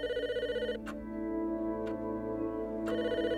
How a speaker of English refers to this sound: When the phone rings, it means the plane has arrived.